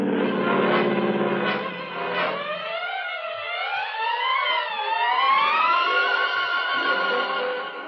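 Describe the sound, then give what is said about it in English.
A huge C-54 propeller aircraft takes off from a long runway, its engines a loud, continuous droning roar with whining tones that slide up and down in pitch over about eight seconds, with no voices. “The huge C-54 takes off. It lifts from the long runway easily.”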